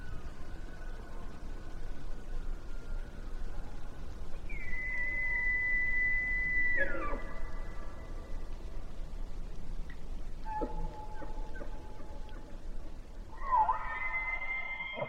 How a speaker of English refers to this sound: Elk bugles echo across Yellowstone Lake.